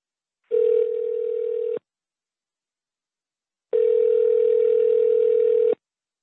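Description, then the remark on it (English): A telephone line tone sounds twice as a call is placed to a guest of the Voice in the Wilderness Internet Radio show: a steady, buzzy mid-pitched ring of about a second, a pause of silence, then a longer ring of about two seconds. No one speaks. “Let's now call Elder Dicardo and see if he is available.”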